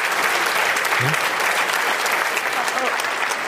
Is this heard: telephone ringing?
no